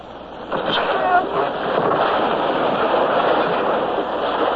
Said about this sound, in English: The wave came. And in we went through a welter of spray and foam.